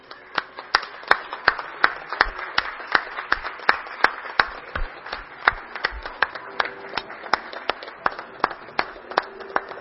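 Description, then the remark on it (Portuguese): Steady applause from a group, with sharp overlapping claps forming a continuous, fairly even patter that holds at moderate loudness for about ten seconds, with no talking, for honorees being led into the city council chamber in Garça, Brazil. “Gostaria também uma salva de palmas para eles.”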